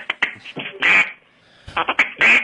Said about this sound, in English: … has got his duck call out, so things must be good.